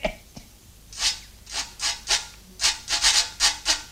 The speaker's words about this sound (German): Probieren wir es halt damit, was? Ein singender Fuchsschwanz passt ohnehin viel besser zu mir. Also versuchen wir dem Ding hier ein paar Töne zu entlocken.